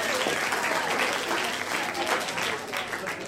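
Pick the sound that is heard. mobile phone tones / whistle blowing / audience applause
audience applause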